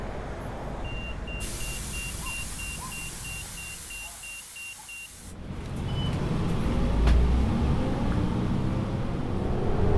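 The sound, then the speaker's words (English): Steady rumble of a city bus, number 168, with a rapid series of high electronic beeps repeating for several seconds, then the engine drone grows louder and rougher as the bus pulls along on a morning commute. “Gonna do some online shopping for the house since I'm on the bus and have check my email from work, and I'm all caught up.”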